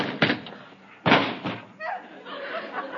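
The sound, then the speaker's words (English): A man runs into a door with a heavy thud, followed by a second loud bang and a smaller knock, then a voice groans and murmurs afterward. “He ran into the door.”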